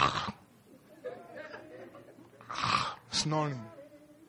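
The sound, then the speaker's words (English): A voice imitates snoring, with a couple of rough, noisy snorting breaths and a drawn-out voiced groan near the end, moderately loud against a quiet, murmuring background. “While you and myself, we are there on our beds, sleeping and snoring.”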